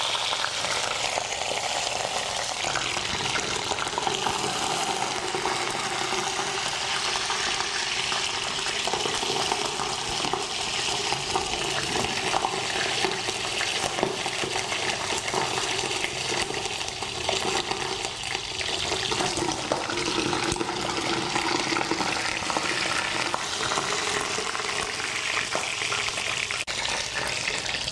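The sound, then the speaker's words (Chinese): Steady, dense sizzling of duck frying in a pan over the pan's residual heat, rendering out the fat under the skin, a continuous crackling hiss that stays loud for the whole stretch with no voices over it. “我们在煎的过程呢，只是把皮下组织的鸭油先把它煎出来”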